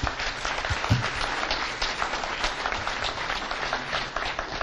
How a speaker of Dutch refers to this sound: En dan natuurlijk onze dank aan onze vier deskundigen vanavond. Heel hartelijk dank. Nog wel een applaus waard, vind ik.